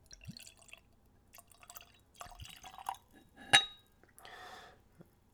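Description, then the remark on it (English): Midori liqueur trickles into a glass with soft splashing and dripping, punctuated by a bright clink of glass around the middle, all fairly quiet with no talking. “So, I'm going to tell you how I plan to taste and describe the spirits, but first we'll pour a little.”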